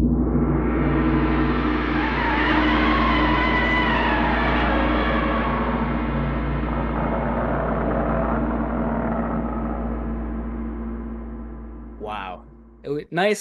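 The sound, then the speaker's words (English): A single loud gong strike blooms into a dense, shimmering metallic roar with a deep low hum, slowly fading over about twelve seconds before a voice briefly cuts in at the end. “I got to beat them back with the gong.”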